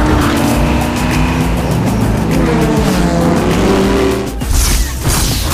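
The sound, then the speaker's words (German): Race cars roar loudly at full throttle through desert sand after the starting shot, raising a big dust cloud, a dense, continuous mechanical growl with rising pitch lines as they accelerate, with a brief dip and surge near the end. “Die Wagen bretterten mit Vollgas durch den Wüstensand und hinterließen eine mächtige Staubwolke.”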